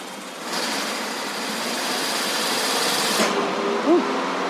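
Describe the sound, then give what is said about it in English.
A car engine with a rag stuffed in its tailpipe holds at raised revs of about 2,000 RPM with a steady, loud mechanical roar and a faint high whine, then drops off abruptly near the end, leaving a quieter rumble and a brief chirp. “Can you bring the RPMs up to about 2,000, please?”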